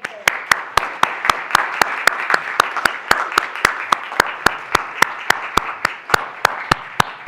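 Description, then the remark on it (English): A large crowd applauds steadily for several seconds, a dense wash of clapping with sharp, evenly spaced claps cutting through in a quick regular rhythm. “Now a round of applause.”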